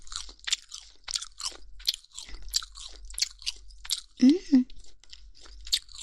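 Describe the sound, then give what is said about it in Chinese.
Crisp crunching as crunchy, chewy food skin is chewed in a steady rhythm of about a dozen bites, with a brief low murmur partway through. “这个皮也很脆，很有嚼劲呢。”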